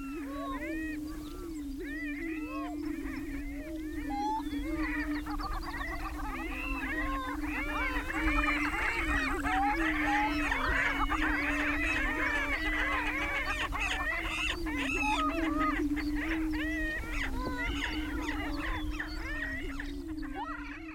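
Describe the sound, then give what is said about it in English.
A dense chorus of many male birds calling at a lek, a breeding audience of males trying to attract hens, overlapping cackles and hooting notes riding over a steady low droning boom, continuous throughout. Recorded by Ozarks at Large essayist Joe Neal. “This is a lek, or breeding congregation of males, doing their best to attract chicks, or in this case, hens, recorded by Ozarks at Large essayist Joe Neal.”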